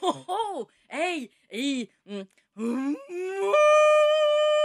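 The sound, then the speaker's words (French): A person imitates a moose mating call used in hunting, with a string of short, nasal groaning calls varying in force, intonation and length, then ends on one long, rising, drawn-out bellow, loud. “Donc, c'est la même chose pour les orignaux. Il faut varier la force, l'intonation, la longueur des cris.”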